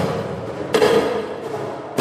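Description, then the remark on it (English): An audience slams the walls of a tunnel during a music performance, also making noise with their chairs: heavy thuds burst out of a constant rumbling, clattering din; one loud slam lands early and another hits right at the end. “The audience are invited to slam the walls, make as much noise as they can with their chairs, and be part of the cacophony.”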